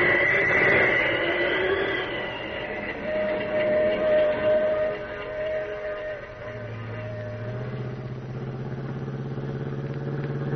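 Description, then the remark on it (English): The Pacific Flyer passenger train rumbles steadily along the rails about a mile beyond Carson City, loud, with high whistle-like tones early on and deeper droning tones settling in toward the end. No one speaks. “Pacific Flyer, all right. The only train they could be on.”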